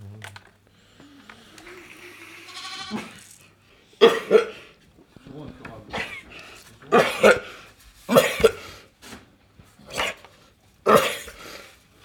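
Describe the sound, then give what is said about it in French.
A ewe with sinus cancer, unable to breathe through her nose, breathes in harsh, laboured gasps, raspy wheezing snorts that come in loud pairs every couple of seconds after a quieter, murmuring start. “Tu peux l'enregistrer comme elle respire, c'est l'horreur. Une brebis qui a des cancers du sinus.”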